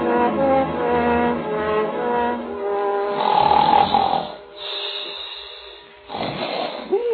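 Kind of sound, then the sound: human body sound, man snoring loudly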